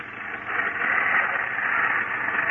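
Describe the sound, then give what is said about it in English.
A car engine, apparently wet, sputtering while driving through a rainstorm on a dark, muddy road: a rough, hissing drone that rises after a brief quiet start and holds fairly steady with slight wavering, no voices. “Must have got wet after all. Mm, that's what it sounds like. Well, I hope it keeps going.”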